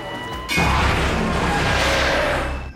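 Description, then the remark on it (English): A suspect's car crashes during a police pursuit with a sudden loud impact, followed by about two seconds of continuous harsh crunching and scraping noise that fades at the end. No one speaks. “Okay, he's wrecked.”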